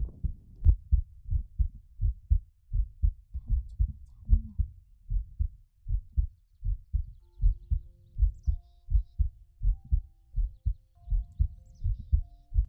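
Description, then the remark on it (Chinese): An amplified heartbeat, heard through a device placed under clothing with its enhancement mode switched on, thumps in a steady, fairly quick lub-dub rhythm throughout, deep and muffled, with faint hiss and soft tonal noise lingering in the background. “打开加强就是非常纯净版的心跳。”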